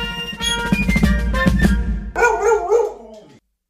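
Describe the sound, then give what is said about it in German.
A short burst of bright music, a segment jingle, gives way to a dog barking several times in quick succession, loud, with no one talking. “Der Wuff der Woche.”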